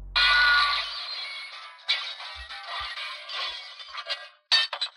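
Glass shatters with a sharp crash, followed by several seconds of tinkling shards scattering and settling, with a final small burst of falling pieces near the end. No voices.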